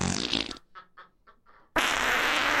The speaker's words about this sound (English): Now it's 2024, longest song played, …, over 1,000 farts.